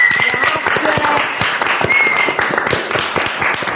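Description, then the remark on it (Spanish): A crowd applauds steadily in thanks to the Fred Film Red team for their video coverage, many hands clapping in a dense, even roar that holds at a strong level for the whole stretch, with a brief whistle-like tone rising above it twice. “Bueno, pues poneros el micrófono entre las piernas o apoyado, porque hay que darle un aplauso de agradecimiento al equipo de Fred Film Red.”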